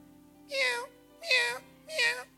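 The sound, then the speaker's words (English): A person imitates a cat, letting out three drawn-out meows at a steady pace, each one loud, with a faint low hum underneath. “You always pray like a cat.”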